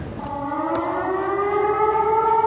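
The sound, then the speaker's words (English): A loud campus emergency siren blares steadily outdoors across the UNC campus, its stacked tones slowly rising in a sustained wail with no voices over it, echoing as if across open grounds. “Sirens blaring across UNC campus.”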